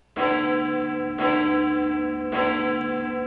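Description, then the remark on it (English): A clock bell strikes three times at an even, unhurried pace, each loud chime ringing out with a rich, lingering tone that overlaps the next. No voices are present. “after starting 0-2, and now we're at 0-3, and the doomsday clock has struck three times again.”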